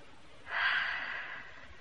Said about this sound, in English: here's me for 10 minutes shut-eye. That's an idea. Helps the digestion. I'm asleep already. And please don't wake me if I snore.